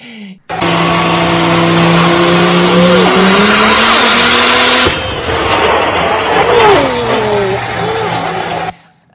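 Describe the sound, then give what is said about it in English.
A car engine that has just been repaired runs loudly and steadily for several seconds, its droning hum wavering up and down with revs, then shifts abruptly midway into a rougher, sputtering rumble before cutting off. “Oh, but I've been fixing the engine on that car. And now, listen, it's running beautifully.”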